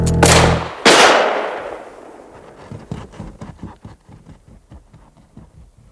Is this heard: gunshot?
yes